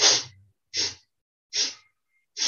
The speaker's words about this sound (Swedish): Nu ska vi leka lite med vårt andetag och då kan det låta så här. Att vi ska andas in på sniff, brukar jag kalla det. Vi sniffar.